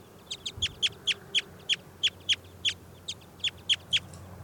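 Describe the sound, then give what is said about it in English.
A wild bird, just pulled out of a net and to be logged as bird 406, calls in a steady run of about a dozen short, sharp, high-pitched chirps, evenly spaced and fairly loud over a faint low hum, with no voices. “I've just pulled that wild bird out of the net.”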